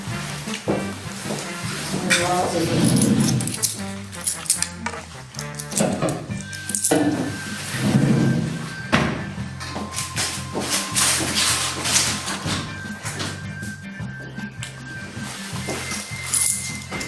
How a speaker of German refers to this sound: Das war übrigens meine Freundin, die hat gerade eine Vase gesucht.